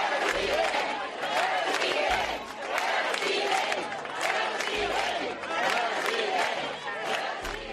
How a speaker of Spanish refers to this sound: Quim Torra ha sido recibido con aplausos en la manifestación convocada por las entidades soberanistas en contra de la presencia del rey en Cataluña.